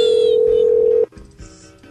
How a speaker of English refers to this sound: You see, it's a little bot that plays ear rape tones. Yep, that's what he does.